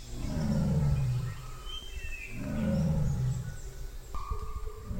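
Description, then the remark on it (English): A tiger in Bandhavgarh gives two deep, rumbling, drawn-out calls a couple of seconds apart, while birds chirp and whistle faintly in the background. “So I think the most interesting thing that happened in terms of sound was actually hearing the tiger's call.”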